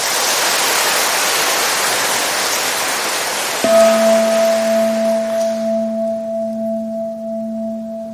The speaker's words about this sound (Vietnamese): Nếu các con cảm thấy lời khuyên của thầy đó là cần thiết phải làm đó, thì cho một tràng vỗ tay thật lớn.